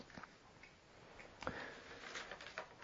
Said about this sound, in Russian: О, часы.